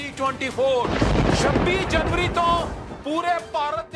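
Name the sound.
thunder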